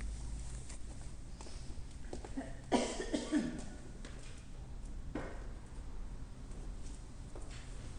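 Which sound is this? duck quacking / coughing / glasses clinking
coughing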